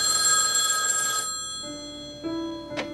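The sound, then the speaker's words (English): A telephone rings loudly with a bright, trilling bell for about a second, then falls silent; faint electronic tones and a short handset click follow, in a scene from the film When Harry Met Sally. “Like there's a sequence of scenes in When Harry Met Sally where they're just getting along and they're just talking on the phone.”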